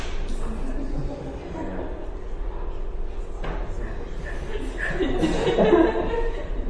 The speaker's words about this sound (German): Das ist einfach ein sehr ungewöhnliches Niesgeräusch.